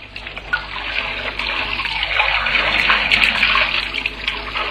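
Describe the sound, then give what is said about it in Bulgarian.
Steady rush of water pouring from taps as more water is let out, a continuous bright hiss that swells slightly louder as it runs, with no voices. “После пускаме повече вода.”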